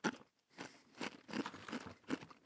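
Repeated crunching of dry, brittle freeze-dried astronaut food being chewed, with several crisp bursts in an irregular rhythm and brief pauses between bites; no talking.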